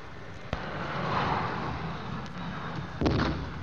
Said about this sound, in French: Des coups de canon. DC-8 de sa sainteté le pape vient de se poser.